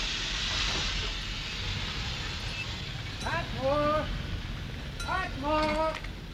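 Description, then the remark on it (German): A train arriving from London pulls into a station with a steady hissing rumble, broken by two short, wavering high-pitched squeals, like brakes or a whistle, that rise and fall. “Ah, da ist sein Zug schon.”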